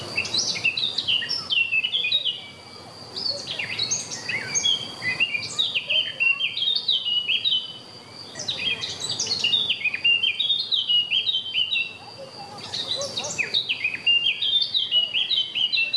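Several birds chirp and sing continuously outdoors in the mountains, bright overlapping tweets and trills, with brief lulls between bursts over a soft background hiss.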